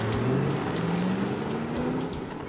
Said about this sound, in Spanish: Va por la carretera, hacia el sur. El automóvil deportivo rojo pudo escapar de la policía durante más de 30 kilómetros.